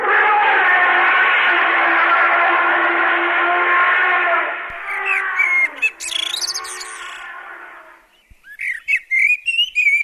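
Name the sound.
elephant trumpeting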